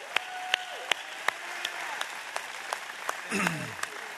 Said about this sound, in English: Can we give a big round of applause to our friends at the Dojo as they make their way out here? Come on, come on.